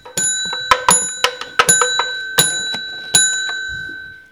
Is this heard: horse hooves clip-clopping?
no